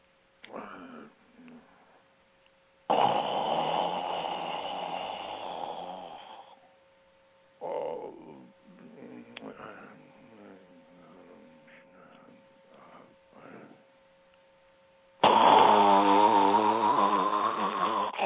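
Loud, rasping human snoring: two long, heavy snores several seconds apart, with shorter, quieter snorts and snuffling breaths in between.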